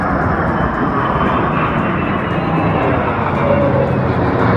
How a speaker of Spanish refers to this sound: Los seguidores del transporte aéreo, por supuesto, también revisamos con lupa el sobrevuelo de aviones militares que ocurre al inicio.